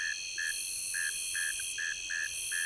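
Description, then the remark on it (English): A male northern mole cricket sings from the entrance to its burrow along the muddy shoreline of a stream, its low buzzy chirps repeating in a steady rhythm, about seven short pulses, standing out against a continuous high-pitched insect chorus behind it. “A northern mole cricket, the male singing from the entrance to its burrow along the muddy shoreline of the stream.”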